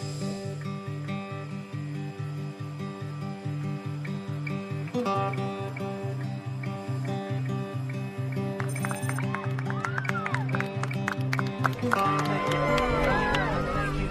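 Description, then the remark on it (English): A large rally crowd roars steadily, with a rhythmic chant or clapping pulse running through it; whistles and shrill cheers grow louder toward the end. “Wow, that crowd is deep.”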